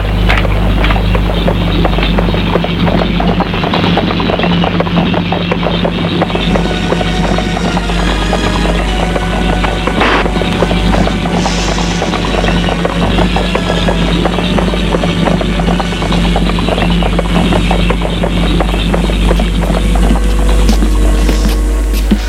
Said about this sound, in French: Elle monte sur son cheval et se sauve au galop.